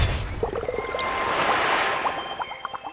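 Water splashes and gurgles up out of a well, a steady rush dotted with quick bubbling droplets that patter irregularly before fading slightly at the end; no voices.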